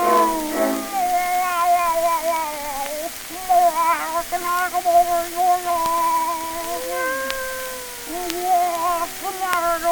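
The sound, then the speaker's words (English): A human voice imitates a cat with long, wavering meows and yowls that rise and fall almost continuously for several seconds, fairly loud, with no other sounds. “How do you like my cat imitation?”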